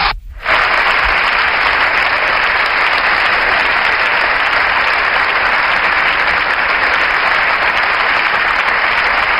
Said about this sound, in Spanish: Como es habitual, un largo aplauso por parte de la bancada del Partido Popular después de la intervención que hoy se ha podido terminar el líder de la oposición.